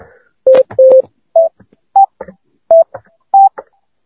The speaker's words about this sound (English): Can you hear that? Can you hear the key presses? We can hear. So we're talking at least 100 milliseconds, possibly more, possibly 150, 200 milliseconds.